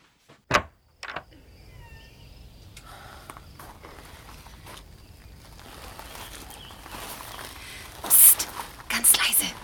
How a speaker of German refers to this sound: Die Tür zugemacht? Hab ich.